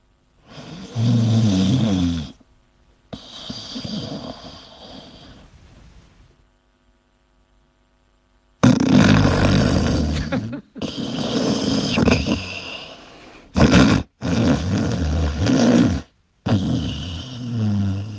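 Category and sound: human body sound, snoring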